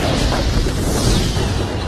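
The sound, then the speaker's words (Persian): A fireball is launched: a loud, sustained roaring blast fills the moment, a dense explosive boom with rushing, crackling texture, heavy in the low end and steady throughout rather than a single sharp hit. “گلوله ی آتیش ردش میکنم.”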